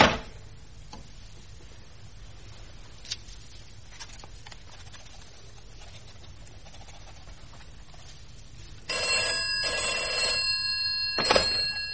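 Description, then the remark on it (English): A long stretch of quiet low hum, then a telephone bell abruptly starts ringing loudly near the end, a bright, continuous metallic jangle with no voices. “I do not like to be telephoned while I'm working.”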